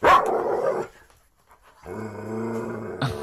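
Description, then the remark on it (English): A newly acquired dog barks loudly: one harsh, booming bark, a brief silence, then a long, deep, drawn-out bark that ends with a short sharp yelp. “We just got a new dog. Listen to this thing bark.”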